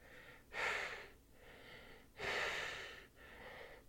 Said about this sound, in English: why are you breathing? You're a robot.